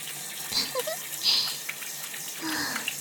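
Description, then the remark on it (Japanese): A shower sprays steadily for a few seconds, a soft continuous hiss with small splashing flickers and brief gurgling shifts as the water stream moves. No one speaks. “シャワーが祈祷の敏感なところに当たるの気持ちいいんですか？”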